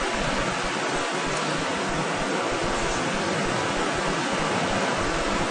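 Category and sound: nature, rain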